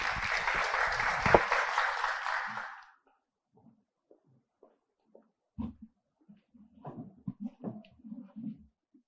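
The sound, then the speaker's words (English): A conference audience claps steadily for about three seconds for a speaker being introduced, a dense, even burst of applause that cuts off abruptly, followed by quiet and then a person speaking softly. “Let's give it a hand of applause.”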